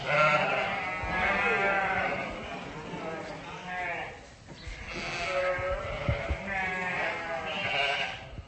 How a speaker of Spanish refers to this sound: No confundir con el be, be de las ovejas que balan, bechi. Bechet es el infinitivo balar.